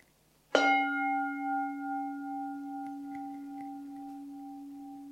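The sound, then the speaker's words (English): A single strike of a meditation gong, rung to end a meditation session. Its bright attack settles into a long, sustained ring of steady overtones that slowly fades with a gentle wavering pulse, with no voices. “I will now ring the gong, and that ends the meditation.”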